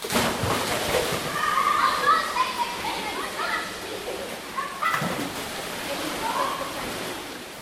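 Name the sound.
water splashing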